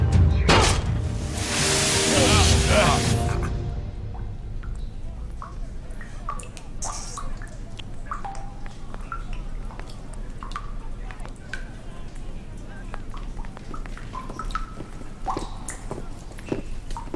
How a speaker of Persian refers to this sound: اینجا چه اتفاقی افتاده؟ اون لوله پوسیده بوده، باید قبل از شروع کارمون آبو میبستیم. نبستین ها؟ زیاد مهم نیست، فردا صبح درستش میکنیم.